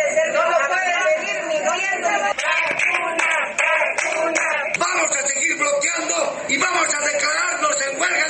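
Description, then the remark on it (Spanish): A protest crowd with placards shouts over vaccine doses running out at vaccination centres, in a dense, continuous roar of overlapping voices, with sharp claps or bangs popping through in the middle stretch. Steady and loud throughout. “Con gritos y carteles se instalaron las protestas.”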